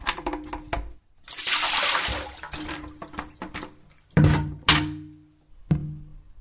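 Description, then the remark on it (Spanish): A container is tipped over and water splashes out in a brief rushing pour, followed by several hollow thunks and clatters as objects are set down or knocked; containers that collect water are being turned over and emptied to prevent dengue. “Dando vuelta a todo lo que junta agua, no hay dengue.”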